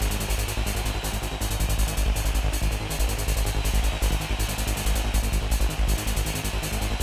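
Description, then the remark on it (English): Wheat beer (Weizenbier) pours steadily into a wet glass for several seconds, a continuous gush of fizzing and foaming liquid with a low gurgle underneath and no voices. “This is the sound of Weizenbier.”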